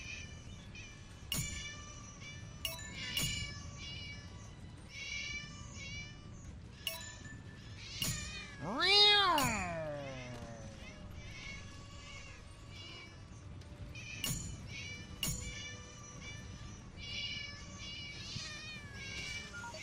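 A cat lets out a loud, drawn-out meow with a falling pitch midway through, amid scattered clicks and faint background chirps; no one speaks.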